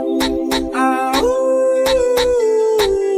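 A whining, howling dog-like cry glides and wavers over a steady, punchy drum beat, loud and up front, sounding like a voice imitating a dog's whimper within music.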